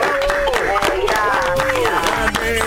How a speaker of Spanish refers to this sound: La vamos a despedir con un aplauso, ¿te parece, señor? Bien.